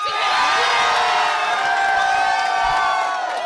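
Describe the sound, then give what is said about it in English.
A large crowd gathered in Portland cheers and whoops loudly and continuously as news breaks shortly after noon, with many high shouts and excited voices blending into a dense, sustained roar. “Shortly after noon, the news broke to crowds gathered in Portland.”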